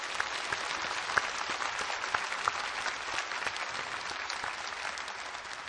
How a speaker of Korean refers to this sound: 우리 교회가 창립된 지 2년 10개월 만에 드디어 오늘 처음으로 온 교우들이 사랑하는 가족들과 함께 한 공간에서 이렇듯 예배드릴 수 있도록 귀한 은혜를 베풀어 주신 하나님께 우리 감사와 찬양의 박수를 드리십시다.